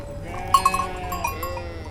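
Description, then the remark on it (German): A flock of sheep bleating together as a walking audience passes through sheep herds in the meadows around Herisau, several wavering calls overlapping in a steady, moderately loud chorus, with a few brief bell-like clinks. No one speaks. “Wir, das Publikum, wandern mit, durchqueren Schafherden, steigen schweißtreibende Wege hinauf, begegnen in einer Scheune einem Walsertext.”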